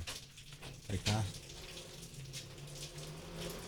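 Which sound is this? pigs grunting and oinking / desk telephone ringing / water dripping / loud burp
water dripping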